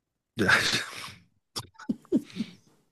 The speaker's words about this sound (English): No, we just cough a lot.